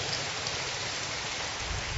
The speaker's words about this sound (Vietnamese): Rồi, xin cảm ơn cả hai trường phái ấy bằng một tràng pháo tay thưa các bạn.